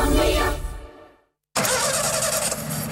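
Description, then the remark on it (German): A car engine cranks and struggles but doesn't catch, the noise fading out into a moment of silence before loud, rough engine noise picks up again. “Ihr Auto springt nicht an und Ihre Verabredung zum Essen?”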